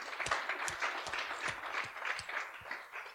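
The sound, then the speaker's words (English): An audience applauds steadily, a dense patter of many hands clapping together at moderate loudness, sustained throughout with no voices standing out. “Big applause.”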